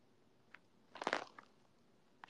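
Wet mouth sounds: a few isolated lip smacks and tongue clicks, with a brief cluster of smacking near the middle, all fairly quiet and with no talking.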